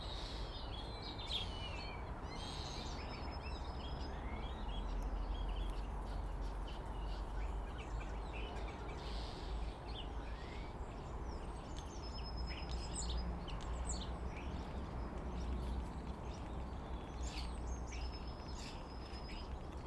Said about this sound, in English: The starlings are both in the big conifer, up immediately up to my left. There's also quite a few in the big beech tree up way off to my left.